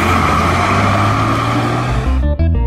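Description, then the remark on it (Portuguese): A bus engine rumbles loudly and steadily, then shifts as the bus drives away, the drone dropping and changing pitch near the end, with no voices. “Olha o teu ônibus indo embora.”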